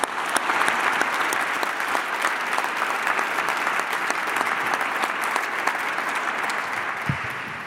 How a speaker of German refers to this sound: Herr Stein, kommen Sie bitte zu uns. Und Applaus.